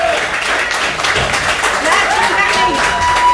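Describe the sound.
An audience at a business event applauds the keynote speakers as they are brought up, a dense wash of many hands clapping that stays loud and even for the whole stretch, with a faint murmur of voices mixed in.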